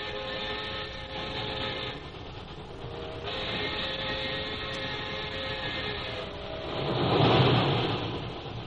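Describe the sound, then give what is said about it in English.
A train nearing Calcutta rumbles steadily along the tracks with a continuous low roar and faint rhythmic clatter, swelling louder near the end. “As Jim and Lil near Calcutta, a messenger boards the train and hands Jim a sealed envelope.”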